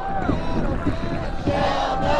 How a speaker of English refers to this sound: But here's a sound you don't hear at the usual Seattle protest march. That's hundreds of people banging their paddles against their boats. Their kayaks and canoes and paddleboards are densely clustered next to the Polar Pioneer drill rig.